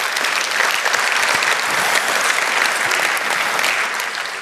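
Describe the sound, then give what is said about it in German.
An audience at a talk applauds the people working in microscopy, clapping steadily for several seconds, a dense, even wash of many hands with no voices standing out, holding a fairly loud level throughout before easing slightly at the end. “Der Applaus für alle Leute, die in diesem Gebiet arbeiten.”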